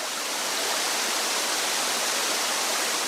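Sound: waterfall rushing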